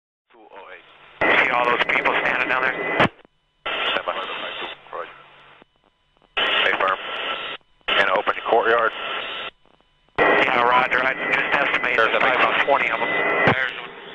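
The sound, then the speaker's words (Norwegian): Crackly, band-limited military radio chatter between helicopter pilots comes in several bursts of talking with short pauses between, over a steady mechanical helicopter drone, with a sharp burst of gunfire near the end as the helicopter shoots civilians in a street. “Det er lyden av et helikopter og sivile som blir drept på gaten.”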